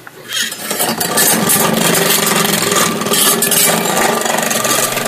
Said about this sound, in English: Awesome machine. Crank up the vacuum cleaner.